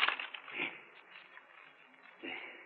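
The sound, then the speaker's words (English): A wooden violin is smashed apart: a sharp cracking burst, then splintering and crunching debris, another heavy crunch near the end, fairly loud with no voices. “You destroy what you yourself have... To break and shatter a treasure, a king's treasure.”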